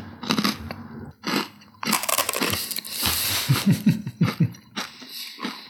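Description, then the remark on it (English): Crunchy chewing of whipped lardo (cured lard mixed with grappa, fennel seeds and chili) on a crouton of toast: crisp, irregular crunches and mouth sounds, with a quicker run of rhythmic chomps toward the end and no talking. “So this is whipped lardo.”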